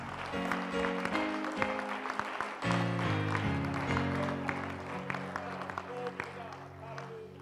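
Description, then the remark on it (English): An audience claps steadily for several seconds in praise of the Lord, a dense, loud wash of hand claps over sustained organ-like chords that shift pitch, with voices faintly mixed in. “Somebody give the Lord one more hand clap of praise.”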